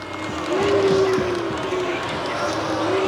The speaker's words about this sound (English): The date, September 10th, 1970, the place, Cook County Jail in Chicago. Sheriff Wood was introduced to an overwhelming round of applause.